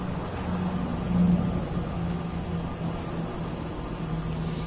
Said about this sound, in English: If I'm following the intermittent sound of the vehicles, I might wonder, is that a sports car or is that a truck? The rumble. Was it heavy? Was it deep?